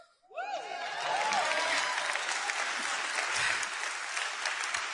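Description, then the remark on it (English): An audience breaks into sustained applause with cheering, steady and loud for several seconds after a brief quiet start, with a few whoops rising above the clapping. “And you cheer about it now, but can I tell you the honest truth?”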